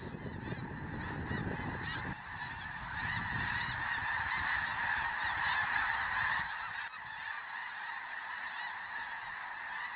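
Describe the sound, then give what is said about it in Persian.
A large flock of migrating cranes calls continuously, dozens of overlapping honking cries forming a dense, steady chorus, with a low rumble underneath at the start and no one talking. “مرغان خو بیا په وطن راغلل، خدای په سرلای شو یاره ځه چې باغ ته ځونه.”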